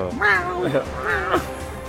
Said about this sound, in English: Cat is howling right now. Yeah, I'm sorry.